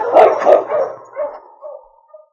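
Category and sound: animal, sled dog team barking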